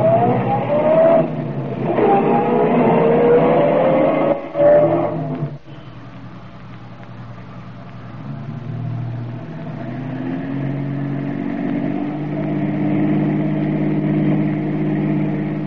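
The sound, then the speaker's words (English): A taxi cab engine drives steadily through heavy traffic, following another cab, its pitch rising and falling as it speeds up and slows, then settling into a lower, rumbling hum. “Traffic's pretty thick, Mr.”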